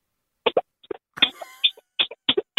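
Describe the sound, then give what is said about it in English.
A rhythmic run of squelchy, farting bursts made with cupped hands, playing "When the Saints Go Marching In": short pulses of varying pitch strung together like a melody, with a brief wavering tonal stretch in the middle. “I can make really good fart noises with my hands.”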